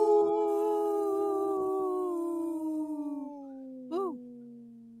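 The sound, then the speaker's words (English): A person imitates a wolf howl, one long sustained wavering note that slowly glides downward, ending with a brief rising-and-falling wobble. No one speaks during it. “Very strong, healthy wolf right there. That's a long breath.”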